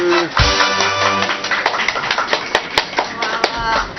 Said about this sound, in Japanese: はい、拍手。